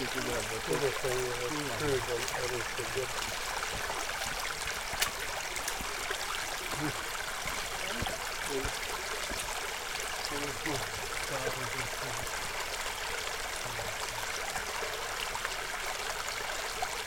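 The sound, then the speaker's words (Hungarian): A babbling stream rushes and gurgles steadily and fairly loud on a pleasantly warm day with a light breeze, with muffled voices murmuring faintly underneath at times. “ez milyen patak? Ez még itt az én patak.”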